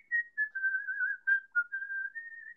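A person whistles a short, wavering melody, the pitch gliding and stepping between notes in a continuous line with a few brief breaks. Clear, with no talking.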